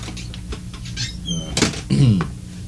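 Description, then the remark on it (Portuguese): A door swings shut with a firm clunk near the middle, surrounded by light shuffling and handling noises, followed by a short squeaky, voice-like sound. “Ah, pode sair e fecha a porta,”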